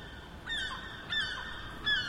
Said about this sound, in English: We can hear the seagull from your place. Isn't it wonderful?